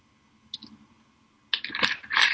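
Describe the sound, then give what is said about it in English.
A faint click, then a burst of wet slurping and swallowing noises as someone takes a quick sip of water, with no talking. “I just stopped and had a sip.”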